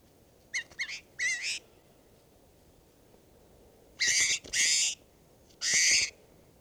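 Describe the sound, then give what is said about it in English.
A recorded call of a bird labelled bird 518 plays in loud, raspy bursts: a quick flurry of short notes, then three longer, harsh calls spaced a second or so apart, with no talking. “This is bird 518.”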